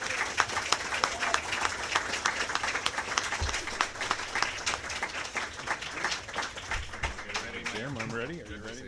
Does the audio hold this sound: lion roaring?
no